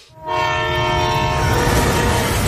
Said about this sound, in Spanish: Un tranvía descontrolado se dirige hacia 5 trabajadores situados en la vía. Una palanca puede desviar el tren a otro carril donde solo hay una persona.